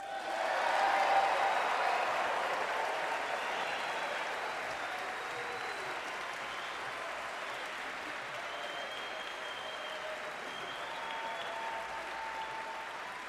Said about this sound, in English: And that's our show. Thank you for coming. Nice long applause. Thank you very much. And well deserved.